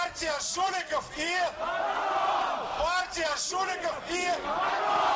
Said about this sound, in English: And after elections that observers say were littered with violations, this Moscow crowd is already on side. What's the party called? He shouts, referring to United Russia. The Party of Crooks and Thieves, they chant back.